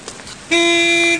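A single loud car horn blast, a steady buzzing tone held for just over half a second before cutting off, with only faint background noise and no voices.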